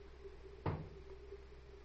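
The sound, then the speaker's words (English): A door shuts once with a short, solid thud as Doc Tyler gets out of his car and goes into the hospital, heard against a steady low background hum and nothing else. “And that was Doc Tyler getting out and going into the hospital.”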